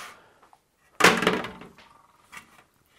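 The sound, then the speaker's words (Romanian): A switched-on foldable phone is dropped into about 2 litres of tap water to test its IPX8 water resistance, with a sudden splash, followed by a short burst of bubbling and a couple of faint sloshing sounds as the water settles. “Bule!”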